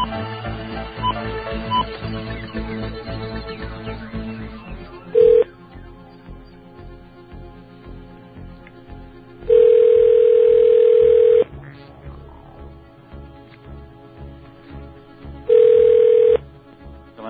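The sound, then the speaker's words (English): A telephone line with a continuous dial tone, broken by three loud, steady beeps of the same pitch as a call is placed to a 7-Eleven store, the middle beep lasting about two seconds. No one speaks. “We printed out more than one phone number, fortunately.”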